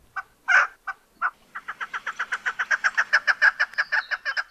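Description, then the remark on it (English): A chukar partridge, a game bird, calls loudly: a few separate clucks, then a rapid, steady run of harsh chuck notes building into a long rhythmic series, with no other sounds. “Well, chances are it's a game bird called a chukar. They have all kinds of calls, and we've got a few for you today.”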